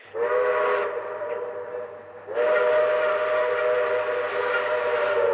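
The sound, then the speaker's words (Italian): An interregional train on the Rome–Campobasso line in Italy sounds its whistle: two long blasts, a short one and then a longer sustained one, loud, with no one talking. “Ascoltiamo su questi treni Roma-Campobasso la voce dei pendolari, poi commentiamo insieme.”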